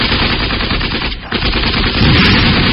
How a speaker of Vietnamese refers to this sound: Vừa lúc ấy, một đám trung đội nằm tập sẵn ở bên kia đường cũng bắt đầu cho nổ súng và tung lựu đạn lên ao ở phía sau lưng địch quân.